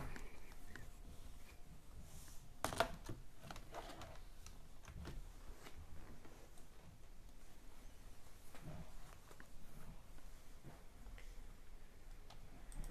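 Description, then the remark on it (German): Quiet, irregular clicking of keys on a computer keyboard as someone switches from a controller to the keyboard to play Minecraft Skywars, with one sharper, louder clack early on and scattered taps in between. “Ab an die Tastatur.”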